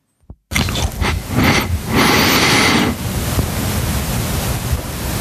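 Loud, rushing breath noise as a person breathes into a headset microphone, part of the microphone's noise floor: a roaring wind-like hiss that swells and fades in waves after a short click, continuing as a steady rough whoosh. No one speaks.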